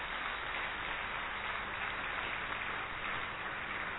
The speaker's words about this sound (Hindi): ये युवाओं की तालियां नहीं है भाइयों, थोड़ी जोर से बजाइए, जोर से बजाइए, एक बार और जोर से बजाइए।